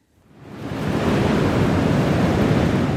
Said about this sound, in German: Wir treffen uns am Strand von Guincho bei Cascais, westlich von Lissabon. Hier bläst der Wind kräftig vom Atlantik.